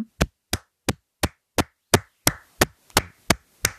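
About eleven loud, sharp hand claps made into a microphone land in a steady, even rhythm, each a crisp slap with a short tail and quiet gaps between, with no one talking.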